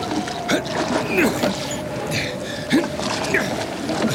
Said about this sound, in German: Meine Güte, ist das aufregend. Benjamin rudert wie ein Weltmeister. Aber ein Stück ist es noch. Schneller, Benjamin!